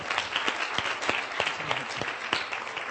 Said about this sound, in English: Wow, give them a round of applause.